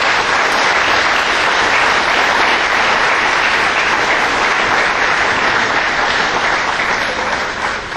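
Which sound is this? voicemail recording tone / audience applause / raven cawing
audience applause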